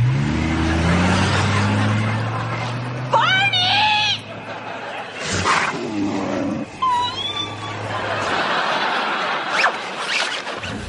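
A truck engine revs loudly with a deep, rumbling drone, then shifts and pulls away, its noise rising and falling as it drives off, mixed with scraping and squealing sounds, as somebody steals the truck.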